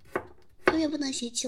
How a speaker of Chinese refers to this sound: 你切菜慢点儿，别受伤了。